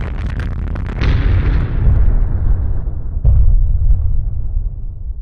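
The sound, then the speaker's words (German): A loud explosion boom erupts after a brief rumble, then rolls into a long, heavy low-frequency rumble, with a second thudding blast a couple of seconds later that slowly fades. No talking. “Und man sagt auch, dass man bis in Schwarzwald rein die Explosion gehört hätte.”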